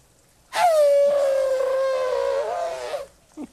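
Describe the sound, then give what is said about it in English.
A person imitates an elephant trumpeting in the rain with one loud, brassy, sustained blare lasting over two seconds, holding steady and then wavering slightly before cutting off, followed by a short faint noise. “Here's the elephant sound in the rain.”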